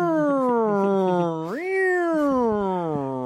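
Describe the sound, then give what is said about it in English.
A person's voice imitates a cat in a cop car meowing out the window like a siren, a sustained wavering tone that swoops up sharply midway and slowly falls, loud for about three seconds. “The cat is driving the cop car, does know how to work the siren, so just meows out the window.”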